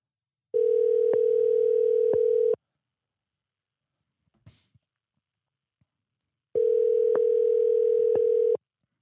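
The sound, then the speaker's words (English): A phone ringback tone while calling someone back: two long steady electronic bursts of about two seconds each, separated by a four-second pause with a faint rustle, fairly loud with no talking. “Let me call this guy back.”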